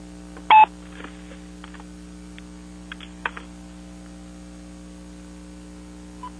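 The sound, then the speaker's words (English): One loud, short telephone keypad tone, then quiet clicks and faint beeps of a phone being handled and dialed while switching to another phone, all over a steady low electrical hum. No one speaks. “But I just have to switch phones here for a second.”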